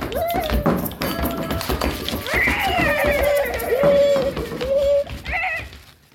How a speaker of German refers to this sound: Andere klopfen. Oder poltern. Alle zusammen machen sie ihre Lieblingsgeräusche und es wird immer lauter.